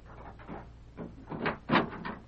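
door opening

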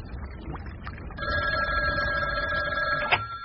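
telephone ringing

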